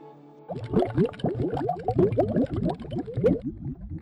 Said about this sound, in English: I was trying to be like, how can I make this sound like you're in like a bathtub or something? I literally just found like some bubble sounds, and I had my phone plugged up to the Pro Tools, and I would just play these bubble sounds at like random